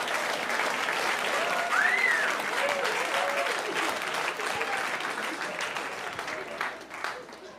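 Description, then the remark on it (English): A crowd breaks into sustained applause, a dense wash of many hands clapping at steady loudness, with a few whoops rising above it before the clapping thins out toward the end. “You all just clapped for a dead baby.”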